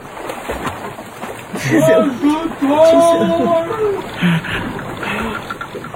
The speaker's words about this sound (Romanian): Într-adevăr, parcă înnoată cineva, înnoată cineva în direcția noastră.